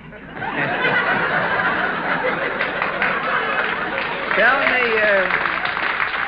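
A radio show audience claps steadily and loudly throughout, a dense patter of many hands, with chuckles and laughter rising from the crowd toward the end.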